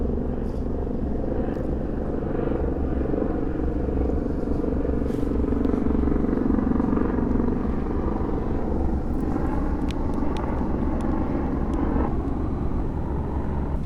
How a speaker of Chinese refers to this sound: 天啊，这个直升机的声音真的太大了。